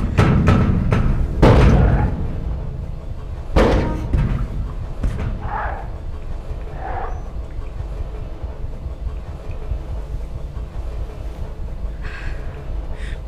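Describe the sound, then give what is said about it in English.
Heavy pounding and slamming against a door, a cluster of loud booming blows in the first few seconds, then a lone hard slam, over a constant low rumble that continues after the blows fade. “At least the door is holding.”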